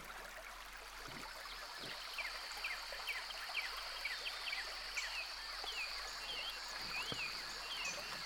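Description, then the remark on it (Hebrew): A steady, soft rush of flowing stream water with many quick bird chirps scattered over it, plus a faint continuous insect-like hum; gentle and fairly quiet throughout, with no talking. “בואו נלך קצת על איזה נחל זורם, קצת ציפורים.”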